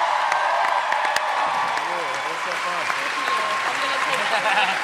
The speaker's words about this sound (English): Please join me in giving a huge round of applause to Maisie Williams, who crushed it.